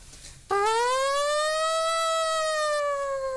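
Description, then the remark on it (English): A person imitates a siren with one long, loud, steady vocal wail that slowly rises and gently falls in pitch, held for about three seconds after a brief quiet start. “Like a trumpet or a siren.”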